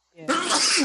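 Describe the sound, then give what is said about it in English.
A single loud sneeze: a short voiced intake builds quickly into a harsh, breathy burst that lingers briefly before cutting off. “Bless you.”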